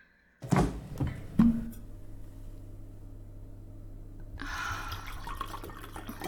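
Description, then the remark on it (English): Two solid knocks, like a bottle and glass set down on a counter, then a soft steady trickle of wine poured into a glass over a low background hum. “I'll pour you some wine.”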